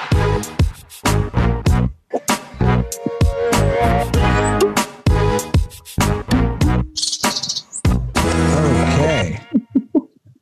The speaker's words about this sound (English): We are sorry, I don't know when the sting ended. I'm just laughing at the birds being the raptor sting. Well, I heard the beginning of like the raptors, and then it like faded into the birds, and I was like, oh.